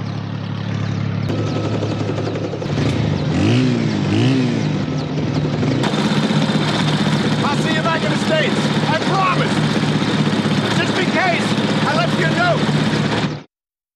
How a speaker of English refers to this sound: As Hawkeye's helicopter takes off, he sees BJ has arranged stones on the ground to spell out the word goodbye.